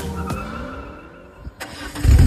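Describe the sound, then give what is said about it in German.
A car engine cranks and catches, settles into a rough idle, then revs up hard with a loud, deep roar at the end. No voices are heard. “Aber erstmal kümmern wir uns um Folge 75 mit einem Auto, das ungefähr so klingt.”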